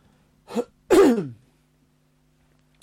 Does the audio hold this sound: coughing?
yes